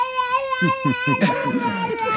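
A baby fusses and cries in short, wavering bursts mixed with babbling sounds, fairly loud, continuing throughout with no adult voice present.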